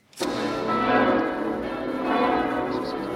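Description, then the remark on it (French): All the church bells of Lisieux, Normandy, France, ring out loudly and continuously to welcome some 90,000 pilgrims to the consecration of the basilica. Their overlapping tones form a dense, sustained wash of sound with a sharp opening strike and no voices. “Ce sont toutes les cloches de Lisieux qui sonnent pour souhaiter la bienvenue aux 90 000 pèlerins, peut-être même aux 100 000 pèlerins, venus de toutes les nations assister à la consécration solennelle de la célèbre basilique de Lisieux”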